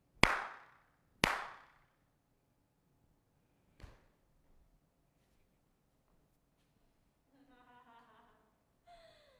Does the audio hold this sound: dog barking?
no